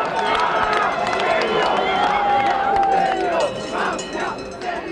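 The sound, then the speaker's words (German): A large crowd in Turin roars and cheers loudly and continuously as the IOC announces Torino as host of the 2006 Winter Olympic Games, with shouts and whistles rising out of the dense noise before it eases slightly toward the end. “Jubel in Turin, riesige Enttäuschung in Sydney.”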